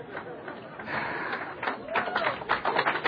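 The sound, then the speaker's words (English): Scattered audience applause mixed with crowd murmur, with about half the room not applauding, starting as a steady wash and turning into sharper, denser claps toward the end, moderately loud throughout. “And do y'all notice that half the room wasn't applauding?”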